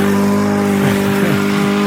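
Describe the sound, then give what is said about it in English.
A lawn mower engine screams at high RPM, a loud, steady, buzzing whine held throughout, with its pitch wavering briefly up and down partway through. No one speaks. “is yours like 55,000 RPMs? Listen to this thing.”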